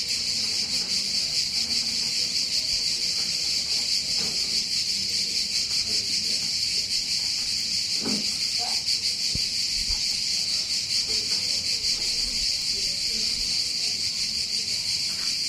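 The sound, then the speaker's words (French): A dense, continuous buzzing chorus of cicadas in Cassis, France, fills the whole recording, loud and steady without pause, with faint low background sounds beneath. “et le chant des cigales.”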